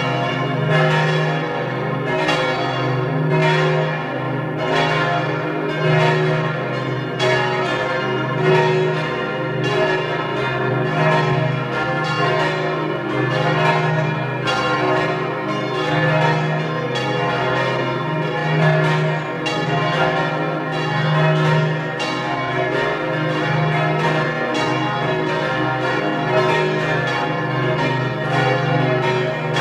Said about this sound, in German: Es ist 12 Uhr. Sie hören die Glocken der Stiftskirche von Virchth in Tirol.